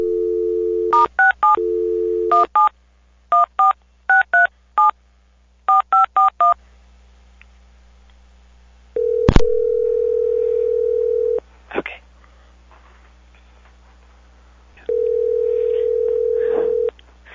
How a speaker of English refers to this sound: I'm going to click over, and when I come back, the phone will be ringing, and I'll be silent.